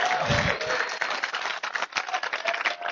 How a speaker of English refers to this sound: We would just like to pray a blessing over you. And we can give a more enthusiastic clap than that, I think.